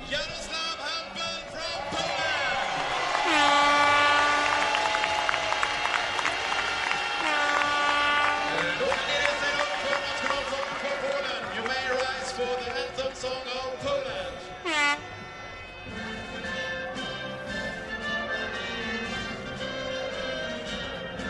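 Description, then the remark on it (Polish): A loud speedway stadium crowd in Malilla roars and cheers continuously after the final heat of the Scandinavian Grand Prix, while many air horns blare in overlapping sustained tones, some rising and falling, filling the whole stretch with festive noise. “Tak było na stadionie w Malili po zakończeniu ostatniego biegu.”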